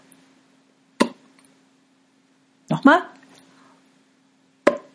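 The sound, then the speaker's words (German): A voice imitates a cork pulled from a bottle: two sharp, loud mouth pops several seconds apart, with one short spoken word between them over a steady low hum. “Na klar, der Korken in der Flasche, den der Junge herausgezogen hatte.”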